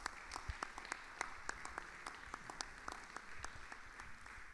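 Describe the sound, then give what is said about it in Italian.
An audience applauds steadily in tribute to the Cinema Palazzo, the venue hosting the event, many hands clapping in a dense, continuous patter with sharper individual claps standing out, sustained for several seconds without any talking. “Quindi un applauso lo farei anche al Cinema Palazzo, insomma.”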